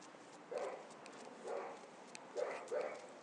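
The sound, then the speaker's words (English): Dogs bark, four short, fairly faint barks spaced irregularly over a steady background hiss, with no one talking. “Yep, there's a lot of dogs up here.”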